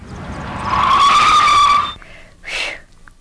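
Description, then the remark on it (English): Car tires screech loudly as the driver brakes hard to avoid hitting a slowing car ahead, a sustained squeal for about a second before cutting off, followed by a brief second skid sound a moment later. “You might at least thank me for preventing an accident.”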